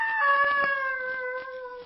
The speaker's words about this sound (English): That be the screech owl again? That cry sounded human. It's like a scream of mortal terror.